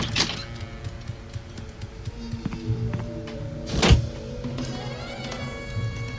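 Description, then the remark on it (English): A sitcom door opens with one firm thunk partway through, set against a steady backdrop of soft, tonal background music with faint clicks. No one speaks. “Let's go to the sitcom door.”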